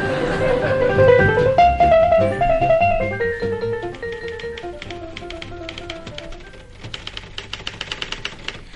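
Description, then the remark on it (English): Several typewriters clack away in an office typing pool in rapid, overlapping keystrokes, with a warm musical tone underneath at first, then the busy tapping continues on its own, steady. “We don't often have the pleasure of you in the typing pool.”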